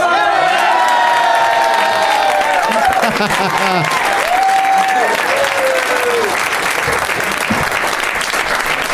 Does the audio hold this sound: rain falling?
no